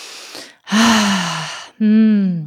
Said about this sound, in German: Oh, ich muss erstmal tief atmen.